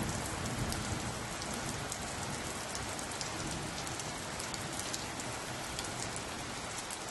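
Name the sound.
rain falling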